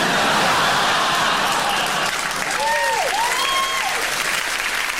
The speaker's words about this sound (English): Oh, and isn't it ironic that that gets a clap?